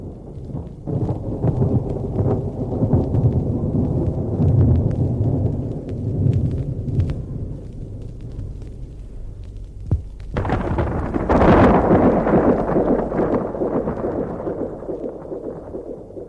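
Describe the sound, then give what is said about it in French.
Deep, rolling thunder rumbles continuously amid lightning, then a sharp, loud crack bursts out and the storm's roar swells before slowly rumbling away. No voices. “Des éclairs, le tonnerre.”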